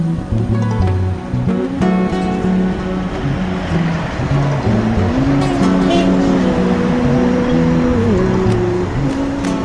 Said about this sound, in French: C'est la voiture présidentielle? Avec des drapeaux rwandais de chaque côté.